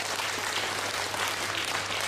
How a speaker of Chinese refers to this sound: 你想鼓掌啊？鼓啦！啊，呢個真係鼓掌啊！